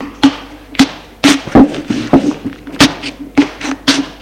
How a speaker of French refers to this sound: Quitte son blouson et le met sur une chaise.